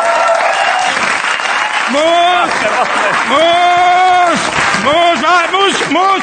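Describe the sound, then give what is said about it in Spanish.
Loud, sustained audience applause fills the whole stretch, with several voices whooping and cheering in rising and falling shouts over the clapping. “pues un aplauso para Jorge Ponce, que está en la calle el tío”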